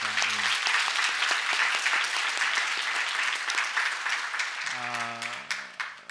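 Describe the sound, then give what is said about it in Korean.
A church audience applauds the choir, which prepared hymns for Easter, steadily for about six seconds, a dense wash of clapping that fades slightly toward the end, with brief voiced sounds at the start and near the close. “우리 말씀을 보기 전에 우리 부활절을 또 맞이해서 또 귀한 찬양으로 준비한 우리 성가대 위에서 한번 여러분 큰 격려의 박수를 한번 부탁드리겠습니다.”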